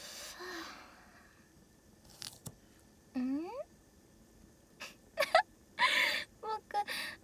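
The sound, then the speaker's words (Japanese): Teary crying from cutting onions, which sting the eyes: a short rising whimper, then a run of sharp sniffles and gasping breaths in uneven bursts, fairly quiet overall with no talking. “泣いてるから心配してるの？”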